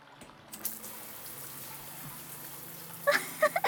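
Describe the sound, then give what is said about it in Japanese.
A shower switches on after a brief pause and runs as a steady hiss of spraying cold water as someone showers, with a few sharper splashes near the end. No one speaks. “溶けたとは言ってもまだお肌に残ってて、このままではいられないのでシャワーを浴びましょう。”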